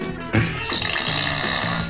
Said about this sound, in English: If you're going to make sound effects, use the CITR fart machine. Come on. Try again.